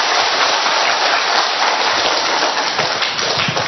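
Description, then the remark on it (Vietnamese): A Vietnamese church audience celebrating the Vietnamese martyr saints gives another big round of loud, sustained applause, a dense wash of many hands clapping at once with no pauses, steady in volume for the whole stretch and no voices heard over it. “Một tràng pháo tay nữa thật to thưa anh chị em.”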